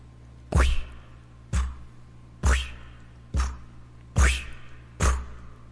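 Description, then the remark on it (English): Six wet, sloshing footsteps at a steady, unhurried pace, approaching and getting closer before stopping, each a splashy thud with a brief watery trail, heard alone against a low background hum. “That's the sound of sloshing footsteps.”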